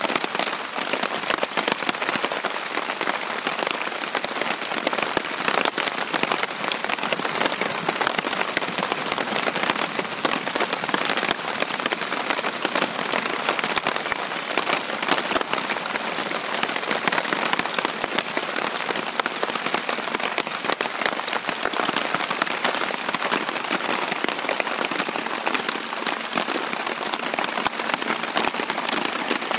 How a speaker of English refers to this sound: I did manage to get some sleep amongst all the noise from the rain. It is quite soothing, actually, lying in the tent listening to the rain. And when I woke up next morning, it was still raining. And this is what it sounded like.